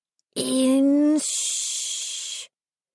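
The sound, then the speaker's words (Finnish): A voice imitates a big, multicoloured cat hissing: a short, strained voiced tone slides into a long, loud, breathy hiss lasting over a second, alone, then stops abruptly. “Heidän iso kirjava kissansakin sähisi.”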